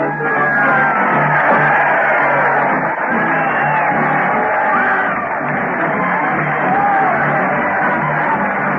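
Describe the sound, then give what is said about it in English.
A loud crowd cheers Fred Allen as he leads a parade, with a band, to the old Town Hall: a dense roar of many voices with scattered whoops, yells and shouts rising above it, sustained at steady volume throughout. “Listen to that crowd cheer Fred Allen as he leads the parade to the old Town Hall.”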